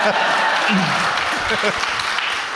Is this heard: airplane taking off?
no